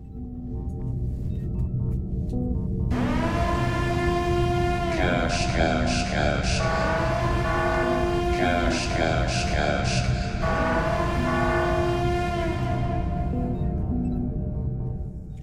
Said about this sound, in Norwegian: Det de nye sirene til luftforsvaret som skal ringe andre onsdagen i februar. Det ny lyd.